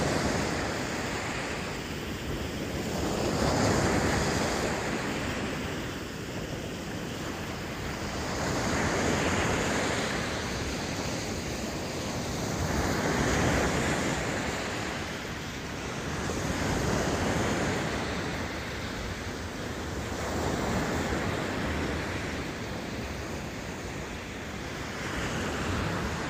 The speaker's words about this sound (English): This is seaside, and we can hear what the wind does to the microphones. It kind of collapses it to the center.